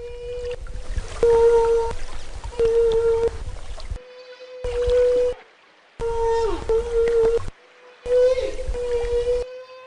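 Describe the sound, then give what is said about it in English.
Actual recorded samples of humpback whale song, sliced and shuffled into abrupt fragments: moaning, harmonic calls with rising and sliding tones, over a low watery rumble, broken by sudden silent gaps. “That's not the Morse code, but it is actual samples of whale, mm-hmm.”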